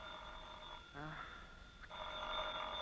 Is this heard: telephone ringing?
yes